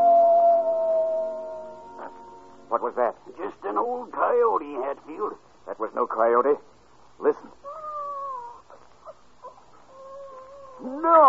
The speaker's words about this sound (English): No coyote. What? It's a baby.